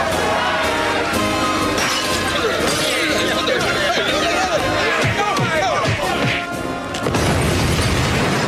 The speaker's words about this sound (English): Oh, that's The Simpsons. And the explosion you heard was a bunch of Irish guys throwing some type of bomb at a fish and chips place. Like that was all happening in Springfield.